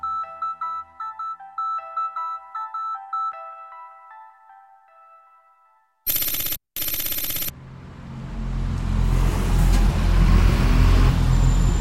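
After a short plinking melody, two sharp hissing bursts like air brakes cut in, then the deep engine rumble of two green trucks swells up loud, growing steadily, as they suddenly arrive at the submarine maker Kockums in Malmö on an early April morning in 2014 with rain in the air.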